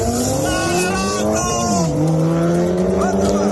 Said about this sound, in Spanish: Son las carreras ilegales que se organizan de madrugada aprovechando las grandes avenidas y el poco tráfico.